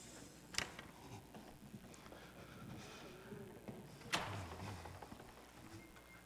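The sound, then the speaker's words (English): A door is shut with a sharp, solid clack and brief low thump, following an earlier lighter knock, with faint background noise. “I shut the door so I'd stay in here.”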